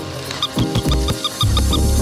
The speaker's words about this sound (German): Und das ist ein Ersatz, wenn jemand nicht einen lebenden Hund ausführen will. Dann kann er wenigstens bei mir einen haben, der bellt. Gut, das ist ein rosarotes, kleines Hündchen, das mit Batterien läuft.